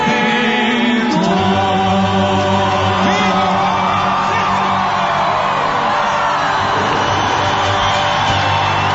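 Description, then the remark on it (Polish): A large crowd shouts and cheers continuously for Pope Francis, with whoops and yells rising over a dense roar of many voices, loud and sustained throughout. “Krzyki, niech żyje Franciszek.”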